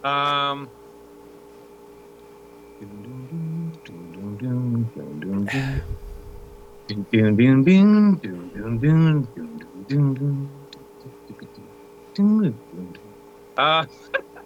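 Someone hums a rock melody up close, wordless phrases rising and falling in short bursts with brief pauses, over a faint steady electrical hum in the background.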